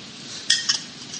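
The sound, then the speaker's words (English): A few bright clinks of glass and dishware as someone takes a little water, two or three quick strikes with a short ringing tail over a soft background hiss, with no voices. “Let's take a little water.”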